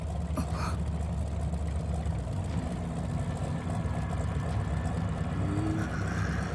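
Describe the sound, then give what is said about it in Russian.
A boat engine runs steadily throughout, a low continuous rumble with a faint higher whine drifting in and out, uninterrupted, with no voices. “Эй, заглуши-ка мотор и помалкивай.”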